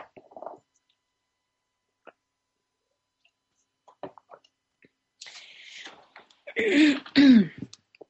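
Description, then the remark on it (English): Quiet sipping of water and small mouth sounds, followed by a couple of loud, rough throat clearings near the end, with no speech. “I need a little water, sorry.”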